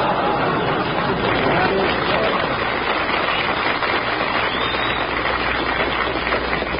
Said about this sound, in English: That's the corned beef crowd applauding us.